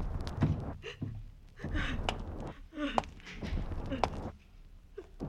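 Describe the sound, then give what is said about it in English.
Quick footsteps echo along a hard-floored hospital corridor, a string of sharp, slightly uneven steps at moderate loudness over a murky background with faint breathy sounds. “And the only sound in the corridor is your footsteps. A sound that hurries toward pain.”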